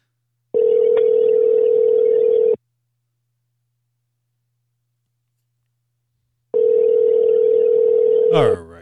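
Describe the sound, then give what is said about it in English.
A phone call ringing through to voicemail: two long, steady ringback tones, each about two seconds, separated by a four-second silence, ending with a brief warbling blip as the line picks up. “Don't forget to cut off the voicemail.”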